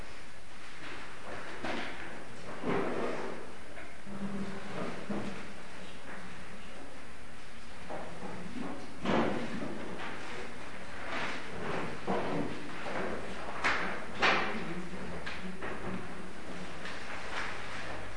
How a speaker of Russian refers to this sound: Поэтому просьба не отвлекаться на всех приходящих и на то, как они садятся, с учетом того, что мебель скрипит.